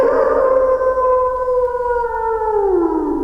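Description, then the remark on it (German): A sustained, mournful wolf howl holds a steady pitch before sliding slowly downward, loud, with a faint second wolf voice layered in and no talking. “Die Laute klingen etwas fremd. Manche würden sogar sagen, unheimlich.”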